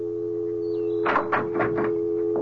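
A door opens as someone walks in, with a quick series of rattling, scraping bursts, then one more soft knock, all over the steady low hum of a furnace heating system. No one speaks.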